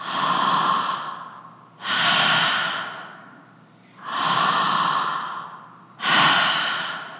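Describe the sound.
A voice imitates the strange, heavy, labored breathing of a sleeping man: four long, rasping breaths alternating in and out, loud, with a slow uneven rhythm and no talking.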